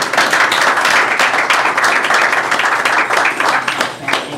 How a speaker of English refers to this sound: Thank you guys very much. You guys deserve a round of applause.